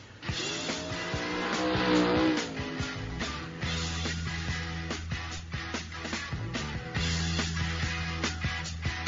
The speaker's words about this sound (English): Hey, we're back at the Snook River Grill, and you just raced back in. If you heard that car go by, that was pretty cool because I just happened to click on...